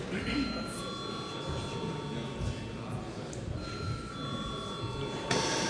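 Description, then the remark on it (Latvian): A steady electric bell rings continuously at moderate loudness in Latvia's parliament, the Saeima, calling a vote on amendments to the agenda, with a murmur of voices and room noise from the hall underneath it. “Lūdzu zvanu!”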